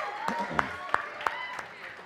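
A handful of sharp claps ring out in a steady rhythm, a brief and thin round of applause in a roomy space with faint background murmur.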